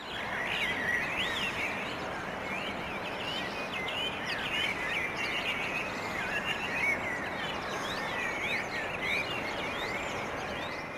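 A dense morning chorus of many birds singing before sunrise, overlapping chirps and trills in a steady, continuous wash of song with no voices present.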